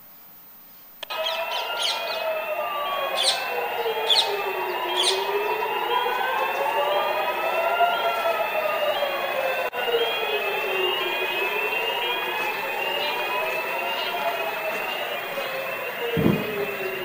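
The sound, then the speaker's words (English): Several rocket warning sirens wail together in Jerusalem, Israel, around 8:17 a.m., rising and falling in overlapping slow sweeps that hold steady throughout, with a few sharp chirps early on and a single low boom near the end from an Iron Dome interception probably miles away. “The rocket sirens began sounding in Jerusalem for the first time that morning, and this was when much of the city first found out that Israel was under attack.”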